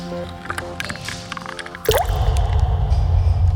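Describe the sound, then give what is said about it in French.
Water drips and trickles against a faint tonal hum, then a shower abruptly bursts on into a steady rushing spray as a person takes a shower, continuing to the end. No one speaks. “Je rentre, je prends la douche, quoi, je sors.”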